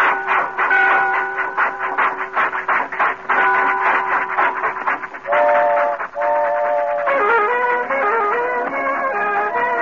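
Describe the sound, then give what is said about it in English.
A train pulls away, its whistle sounding in long, sustained blasts over a steady, rhythmic rumble of wheels. Loud throughout, with no voices. “Get that little lady on the train, boy. All aboard.”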